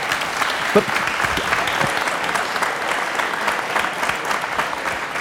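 An audience claps steadily for several seconds, a dense, even patter of many hands at a fairly loud level with no voices standing out.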